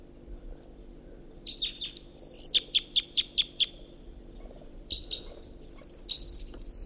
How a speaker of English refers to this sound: I got one right above me and another in the tree above the net. Flight song of the first bird. And that bird's taking off and perching a dead tree over there.